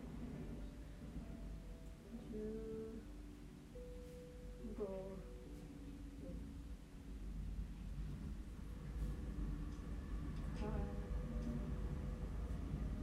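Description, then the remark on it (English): A steady, low rumble of a running train, with drawn-out tonal whines rising over it now and then, like wheels squealing or a faint horn. “The train's still running.”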